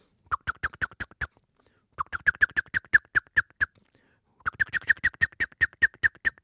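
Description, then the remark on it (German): A blackbird's ground-predator alarm call, in mild form, at an approaching cat: three bursts of rapid, sharp clucking notes, each burst about ten quick calls in a steady rhythm, separated by short pauses. “Der Bodenfeind Alarmruf in leichter Form. Nun kommt die Katze näher.”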